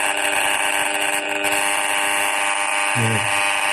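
An RF meter gives a loud, steady electronic buzz with dense harmonics as a cordless phone is switched on and held very close to its aerial, with readings well over 20,000 microwatts. A brief lower tonal blip breaks in near the end. No one speaks.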